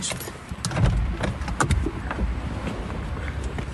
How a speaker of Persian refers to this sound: ماشین رو قفل کنم بریم.